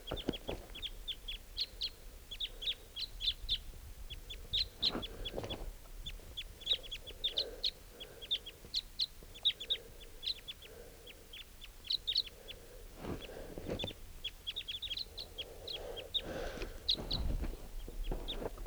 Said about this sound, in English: and there's a wild crossbill here. Got attracted into camp by the decoys. Pointed at the wild bird. Oh, there are two birds. Type twos.